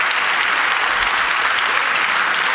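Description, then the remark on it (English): Sustained applause from an audience, with Democrats clapping after a speech line about the United States sending billions to support Ukraine's defense, fills the whole stretch, a dense, steady patter of many hands clapping at an even, fairly loud level with no voices standing out. “The one-time Democrats clap.”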